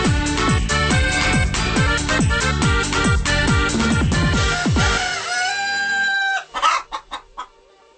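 An upbeat, bouncy Portuguese-language dance song with chicken clucks woven into its rhythm, ending with a few short, separate clucks as the music drops away.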